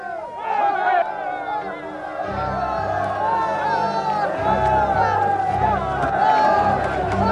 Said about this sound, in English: Soon the whole city was in an uproar. The people seized Gaius and Aristarchus, Paul's traveling companions from Macedonia, and rushed as one man into the theater.